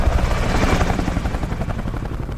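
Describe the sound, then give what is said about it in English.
A military helicopter arrives, its rotor blades thudding in a rapid, steady pulse over a loud engine rumble that fills the whole short stretch, with no voices. “the signature sound of American troops in battle is the arrival of the helicopter”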